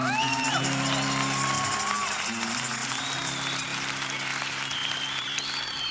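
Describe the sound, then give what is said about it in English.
A live concert crowd applauds steadily for several seconds for the introduced keyboard player, dense clapping mixed with scattered whoops and cheers, with a sustained tone holding underneath throughout. “On the keyboards, give him a warm hand.”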